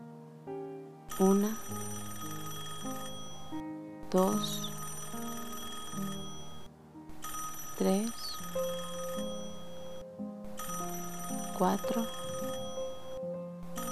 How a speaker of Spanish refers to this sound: Justo en ese momento suena el teléfono.